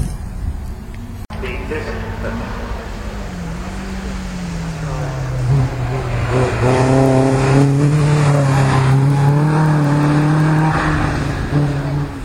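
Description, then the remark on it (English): A racing car engine roars loudly and steadily at a hill climb at Wiscombe Hill Park, its pitch climbing as it accelerates uphill, with harsh revving growing stronger toward the end over a constant outdoor rumble. “Anyway, I'm going to go and try and find some cars now.”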